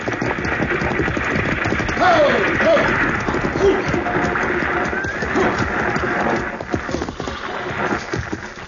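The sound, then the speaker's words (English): A six-horse hitch, as if pulling a stagecoach, draws near with steady clopping hooves and rumbling movement, while a couple of sharp whinnies cut through early on, fairly loud throughout. “Driving a 6-horse hitch ought to keep him awake.”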